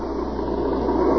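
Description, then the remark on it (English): A reconnaissance car's engine runs with a steady, low rumble, fairly loud, swelling slightly toward the end as the car comes up the road. No one speaks. “There's a recon car coming up.”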